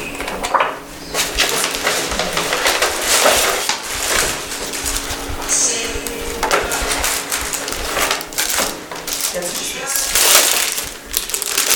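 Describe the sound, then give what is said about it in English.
Stiff cardstock paper sheets rustle and crinkle almost continuously as they are passed out and handed along from person to person, fairly loud, with indistinct voices murmuring in the background. “Again, this is just cardstock paper. So everyone just take one and pass it down, and then you can leave the extra in the middle.”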